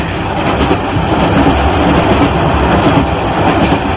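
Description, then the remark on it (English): A steam train pulling empty coaches rolls steadily along the rails, a loud, continuous rumble with faint rhythmic clatter from the wheels, and no voices. “I think the exhibition's moving.”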